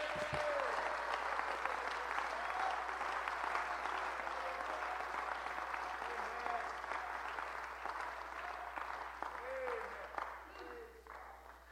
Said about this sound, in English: Somebody that believes that, you ought to clap your hands right now.